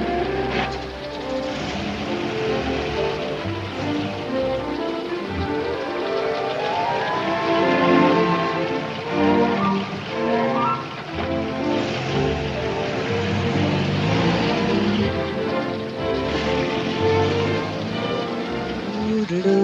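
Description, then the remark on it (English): Steady rain patters on a hard surface for the whole stretch, close and fairly loud, with tonal, music-like sounds blended over the hiss and no talking. “This California dew is just a little heavier than usual tonight.”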